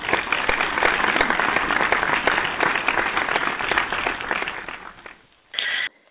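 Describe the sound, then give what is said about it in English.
A crowd claps in a dense, steady round of applause for about five seconds, welcoming a guest onto the Lizzie T Radio Show, then it fades out and a short bright tone follows. “Let's welcome with a wonderful round of applause.”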